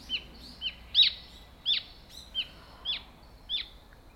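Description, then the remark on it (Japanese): A recorded bird call played back: a series of about seven sharp, piercing calls, each a quick downward-slurred note, repeating at a steady half-second pace over a faint background hiss, with no talking. “そうですね、そうなんです、うん、鳥はいろんな鳴き方するので、声の特徴が似てるなと思ったらそれをが一番近いですね。”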